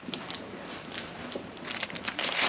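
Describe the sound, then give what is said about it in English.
A 20 banknote is peeled from a wad of cash, making soft, crisp rustles and a few brief papery crinkles that build slightly toward the end. No one speaks. “She peels off a 20 from the cash he gave her.”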